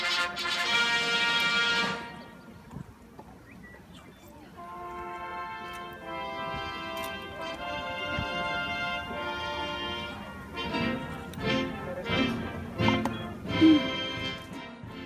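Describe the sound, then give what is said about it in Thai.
A brass band plays a march at a ceremony at the White House in Washington, before the Pope and President Obama walk out, with sustained, harmonically rich notes and sharp drum and cymbal hits that grow busier toward the end, over a murmur of outdoor crowd ambience. “ซึ่งตอนนี้มีเสียงบรรยากาศตอนที่มีเล่นเพลงมาร์ชก่อนที่ทั้งสองท่านจะเดินออกมาจากทำเนียบขาวมานำเสนอครับ”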